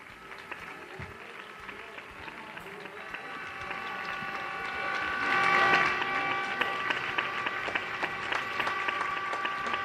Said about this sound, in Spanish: Esos aplausos en el micrófono desde Carabanchel de Neus Cerdá.